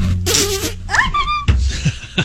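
A flatulent blast, with a brief raspy burst followed by a rising squeaky tone and a few shorter sputtering bursts, loud and close with no talking.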